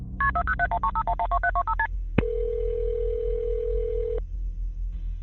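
A rapid run of a dozen or so short telephone keypad tones beeps at varying pitches as the emergency number is dialed, then a click and a steady mid-pitched line tone holds for about two seconds over a low hum.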